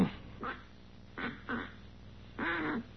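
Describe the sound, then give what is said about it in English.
A duck call blown in four nasal quacks, three short bursts and then a longer drawn-out one, fairly loud, with no talking over it. “It takes kind of a knack to blowing it.”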